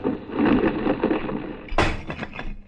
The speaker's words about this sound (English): What was that? A large marble fragment of ancient Greece. If I hadn't taken your arm just then, it would have splattered me all over the Acropolis.